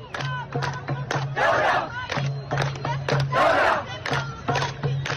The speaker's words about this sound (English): There's this image from the protests in Sudan that's gone viral on social media. It shows a young woman standing on top of a car. There's a large crowd of protesters surrounding her. There's also video of this moment.